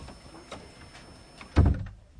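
A door swings and shuts with a single loud, low thud that rings briefly before fading, preceded by quieter rustling and creaks as it moves.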